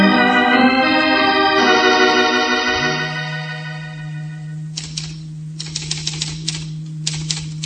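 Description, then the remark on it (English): Sustained musical tones fade out, then a typewriter starts clacking in quick, irregular bursts of keystrokes while a steady low hum drones underneath. “Well, I'm just typing.”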